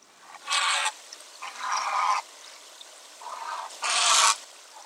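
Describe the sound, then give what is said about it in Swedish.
A heron gives several hoarse, rasping croaks in uneven bursts, each a harsh, noisy squawk lasting under a second, with short gaps between and no talking. “Hägern ruskade på sig, fluffade till fjädrarna och stämde upp ett brustet kväkande skall.”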